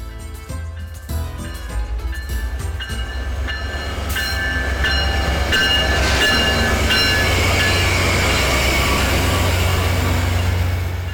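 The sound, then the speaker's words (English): A Via Rail passenger train in Northwest BC, between Houston and Smithers, rolls steadily along the tracks, its low rumble building and holding loud, with scattered metallic squeals and clatter from the wheels over the rails. “Anyone who lives in Northwest BC knows that the train, although pleasant and charming, is not a viable travel service.”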